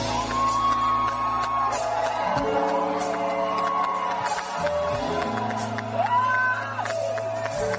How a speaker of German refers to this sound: Dann kommt der Auftritt. Sie stolpert auf die Bühne. Jubel. Riesenjubel. Ihr Name aus tausenden Kehlen.